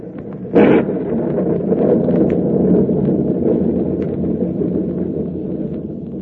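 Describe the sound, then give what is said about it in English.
A stormy sea roars steadily, with a low rumbling wash of wind and waves and one sharp, bright crash of water breaking early on. No voices are heard. “Storm seems to be subsiding somewhat, sir.”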